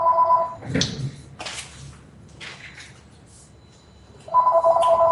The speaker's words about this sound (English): So I'm making a phone call in the middle of the show.